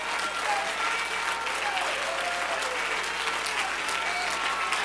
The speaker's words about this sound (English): But the Lord was on my side. Clap your hands till it hurts a little bit.